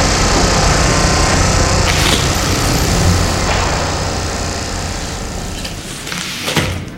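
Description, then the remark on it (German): Loud, constant machinery noise from a construction site, a dense rumbling roar with clanks and scrapes on top, easing slightly toward the end before a final sharp knock. “Die Baustelle macht krass.”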